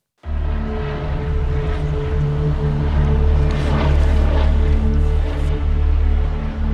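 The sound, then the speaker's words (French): A helicopter drones loudly and steadily as it approaches the Luynes prison at 4 pm, its deep rumbling engine and whirring rotor holding a constant roar from start to finish with no voices. “Il est 16h quand un hélicoptère s'approche de la maison d'arrêt de Luynes.”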